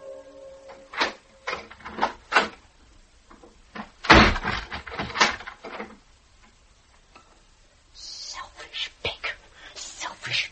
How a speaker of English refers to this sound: A door slammed like a blow. Feet thudded angrily down a stair and kept on thudding towards my door.